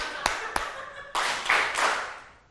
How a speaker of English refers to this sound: What was it? Clapping. So the teacher goes, and the students go. Let's try that again.